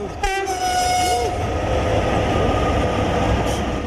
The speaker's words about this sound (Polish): To była ruina tutaj, ale był taki fakt, że przejeżdżające obok pociągi zawsze dawały sygnał.